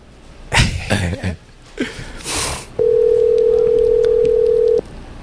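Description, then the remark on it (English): A single steady ringback tone hums for about two seconds on an outgoing phone call to Bernal Heights Pizzeria, loud and even, following a few short bursts of breathy noise. “Ring. All right. Let's see if they answer.”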